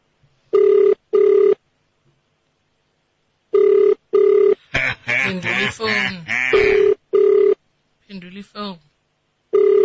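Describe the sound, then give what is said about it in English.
An outgoing call's ringback tone sounds in short double bursts, repeating steadily and loud, while a voice, likely a recorded message, talks between and over the later rings. “It's ringing.”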